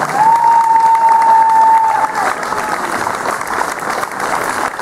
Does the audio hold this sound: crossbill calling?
no